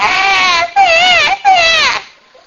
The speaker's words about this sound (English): You ever heard a baby cry just for hours on end? After a while, it's just, stop.